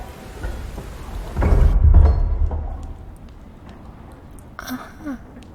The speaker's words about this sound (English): Oh, I see. So, you were travelling through the forest when it started to pour with rain.